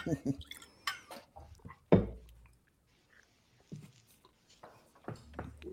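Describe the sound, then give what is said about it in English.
A water drip sound effect: a string of wet plops at irregular intervals, one loud drop near the middle, with quieter drips and faint murmuring in between. “First of all, Moose, hit us with a drip. By the way, drip drop.”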